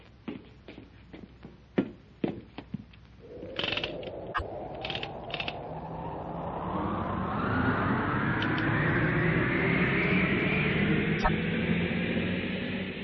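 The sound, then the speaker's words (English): A few sharp clicks and knocks, then a rushing, rumbling roar that swells and climbs steadily in pitch as a great, heavy car carrying its load slides fast down copper rails, loud and continuous to the end. “With the speed of an arrow, the great car and its burden slides down copper rails.”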